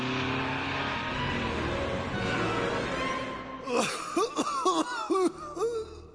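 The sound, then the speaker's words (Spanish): A loud engine roars with a steady, rough rumble, then revs hard in several sharp rising and falling bursts near the end. No one speaks. “Maestro, usted es grande, pero calcule la cantidad de gases que echa al aire ese carro de fuego.”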